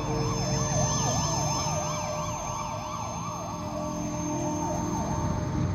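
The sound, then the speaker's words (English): An ambulance siren wails in quick, repeating rising-and-falling sweeps, loud and steady for the whole stretch, with a low traffic rumble underneath and no voices. “They got an ambulance.”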